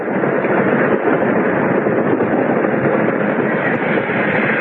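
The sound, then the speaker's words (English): The 910 train rolls into a station platform with a loud, continuous rumbling roar that holds steady for a few seconds, with no voices. “It should stop at the end of the platform there.”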